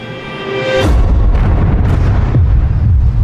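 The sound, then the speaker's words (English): In a film, a steady tonal hum is cut off by a sudden, loud gunshot blast that rolls into a heavy, booming rumble, with a couple of smaller cracks as it decays. No one speaks. “The entrance to gunshot number one.”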